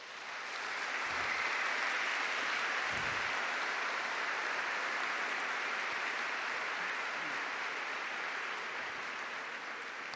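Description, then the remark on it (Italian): Sustained applause from a large audience in tribute to consecrated brothers, sisters and priests who gave their lives to educating children and young people, a dense, steady wash of clapping that holds evenly at full strength for about ten seconds with no voices over it. “Ma io vi invito a fare un omaggio a loro con un bel applauso.”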